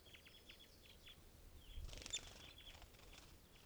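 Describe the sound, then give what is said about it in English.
A small bird, an adult male western tanager, flaps briefly in a mist net, a short soft burst of fluttering midway, while faint high chirps repeat steadily in the background. “Western tanager just flew into the net.”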